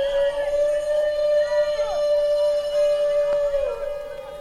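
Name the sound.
wolf howling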